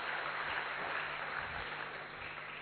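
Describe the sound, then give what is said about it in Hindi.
An audience, asked by the speaker, claps for a participant who gave a right answer, in a dense, continuous wash of applause with no clear individual claps standing out. It stays fairly even in loudness throughout and has no talking over it. “भाई इन्हों के जवाब राइट है, ताली बजाए, बैठिए।”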